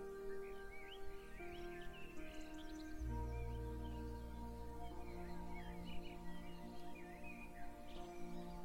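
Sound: birds singing outdoors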